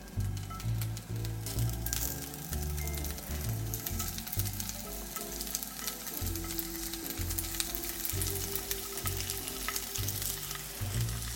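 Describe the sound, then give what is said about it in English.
Steady, crackling sizzle of four to five tempeh slices frying in hot oil in a pan, continuous for the whole stretch, with a dense hiss and occasional pops and no voices. “I'm going to add our tempeh directly to the pan. Do you hear that sizzle?”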